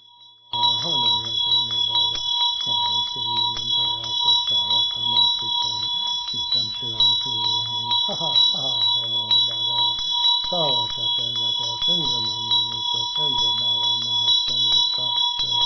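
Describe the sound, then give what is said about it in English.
A ritual hand bell, used with a dorje, rings continuously, its bright, high shimmering tone held steady while a low voice recites the Vajrasattva recitation in Sanskrit underneath in rhythmic phrases. “My attendants brought my bell, so nice.”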